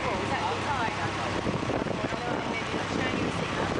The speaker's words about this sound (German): Auf einem Motorboot werden wir zu einem Schiff gefahren, das in der Bucht vor Anker liegt.